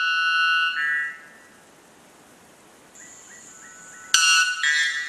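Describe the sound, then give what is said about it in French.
A white bellbird's mating call, the bird with the most powerful call in the world, a white, dove-like bird of about 250 grams: two very loud, metallic, ringing blasts rich in harmonics, the second bursting in suddenly after a quiet gap broken only by a few faint, short notes. “Alors, vous nous avez promis qu'on allait entendre en préambule l'oiseau au cri le plus puissant au monde.”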